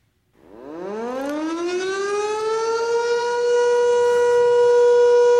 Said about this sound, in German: Ja, das ist der eidgenössische Sirenentest. Den haben wir seit 1938, meine Lieben.